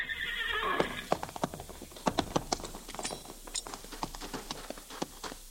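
A horse whinnies loudly at the start, then hooves clip-clop in a quick, uneven rhythm, sharp hoof strikes continuing to the end with no one speaking.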